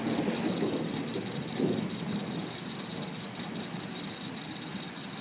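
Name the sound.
rain falling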